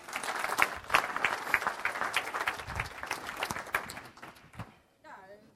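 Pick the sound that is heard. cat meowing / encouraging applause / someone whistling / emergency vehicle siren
encouraging applause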